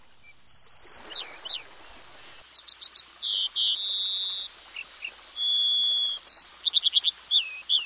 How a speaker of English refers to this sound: Step ashore at almost any port in early summer, and the air is filled with the calls of songbirds courting and nesting. Some of the birds common in south coastal Alaska are unusual outside the west coast, offering a prime opportunity to see and hear